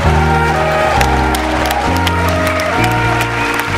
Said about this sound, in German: Das verdient Applaus für den Mut